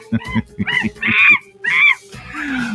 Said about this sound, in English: In monkey news. Do I have a... I do have a monkey sound. Where's my monkey sound? Monkey.